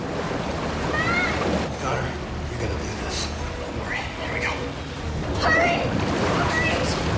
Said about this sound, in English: The water's rising fast.